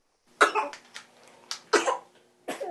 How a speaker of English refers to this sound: Oh, you got a little cough, don't you, sweetie?